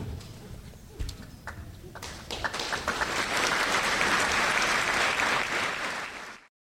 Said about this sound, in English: Now, you may want to applaud again